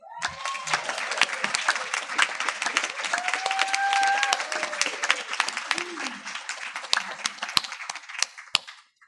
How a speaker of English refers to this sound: And one of our prize recipients is here tonight with us. He was the first place winner in the grades 9 through 12 category. And I would like him just to stand up and so you can have a chance to applaud him.